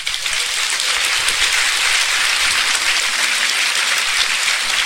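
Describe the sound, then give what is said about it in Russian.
Sustained audience applause following a lecture, a dense, steady wash of many hands clapping at an even loudness throughout, with no voices standing out. “Я могу только одним образом истолковать ваши аплодисменты.”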